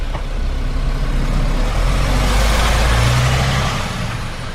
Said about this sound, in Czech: Herci z divadla Petra Bezruče nastupují do pronajatého autobusu a vyrážejí na zájezd do Nového Jičína.